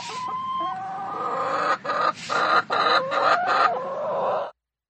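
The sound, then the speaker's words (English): A chicken clucks steadily, a run of short, throaty bursts with a few brief pauses, over a low background hum, with no one talking. “I would go for the first clip, that was a happy chicken.”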